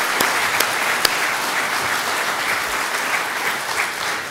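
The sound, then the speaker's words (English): A steady round of applause from a crowd for a group after their singing and reading, dense overlapping claps holding an even, moderately loud level throughout, with a few sharper individual claps standing out near the start. “Could we give them a big round of applause now?”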